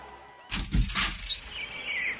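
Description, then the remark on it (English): Birds chirp briefly at moderate volume under bright, snow-melting sun as spring approaches, a few bright bursts followed by a thin, high, sustained trill, with no voices present. “That bright, snow-melting sun and the birds chirping means springtime's coming fast.”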